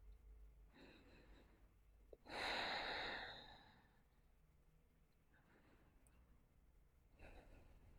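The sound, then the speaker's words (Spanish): Slow breathing: a few soft breaths followed by one loud, airy exhale that fades out, then quieter breaths. Intimate, with no talking. “¿Sientes eso? Es mi respiración.”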